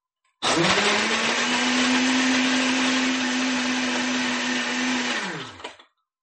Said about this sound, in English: And last, our ice cubes to make it nice and cold. Then we shut the blender and turn it on.